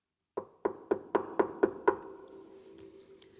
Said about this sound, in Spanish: Colorito pensaba que Agilina se encontraba en casa y llamaba desconsolado a la puerta.